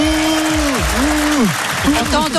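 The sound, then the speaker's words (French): Studio audience applause at a live broadcast in Lyon: a dense, steady patter of many hands clapping throughout, with a voice sounding over it. “Ça fait toujours plaisir de se faire un peu applaudir de temps en temps.”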